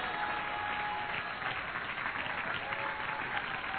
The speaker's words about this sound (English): Clap your hands again and worship for just a moment in the presence of the Lord.